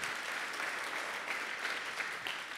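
An audience claps steadily, a dense, even wash of many hands applauding without pause, with no voices rising above it.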